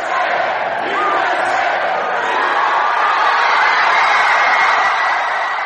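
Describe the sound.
A large crowd cheers and shouts in a sustained roar of many overlapping voices, loud and steady for several seconds with whoops rising out of the din, as people gathered in the United States to watch the Women's World Cup final celebrate the win, the first in 16 years.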